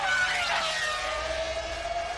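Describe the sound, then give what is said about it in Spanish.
The engine of Fernando Alonso's Renault Formula 1 car screams at a high, steady pitch, loud and sustained throughout, its whining tone dipping slightly early on before holding level, with no talking. “Renault ha dicho un sonido, el del motor de Fernando, del coche de Fernando Alonso, una voz, una cara, un hombre.”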